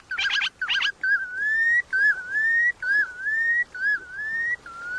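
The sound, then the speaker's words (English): Red knot calls from a migratory bird: two quick buzzy trills, then a series of five or six clear, slightly rising whistled notes in steady rhythm, loud, with no other sounds around them. “Protecting key stop oversights and managing fisheries sustainably are just some of the ways we can help migratory birds like the red knot complete their cross-continent marathon each spring.”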